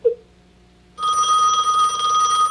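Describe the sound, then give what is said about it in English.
After a second of near silence, a telephone bell bursts into a loud, continuous metallic trill that rings steadily until the end; Lynn's mother walks to the phone, and Harry is calling from a diner. “Lynn's mother walks to the phone.”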